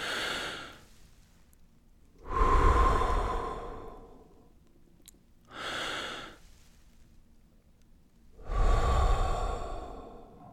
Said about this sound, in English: The simple check-in just requires breathing. So it always starts with just taking two deep breaths.